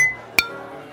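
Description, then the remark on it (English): Glasses clink together in a toast, a sharp bright chime near the middle and another at the very end, each ringing briefly against quiet. “Cheers.”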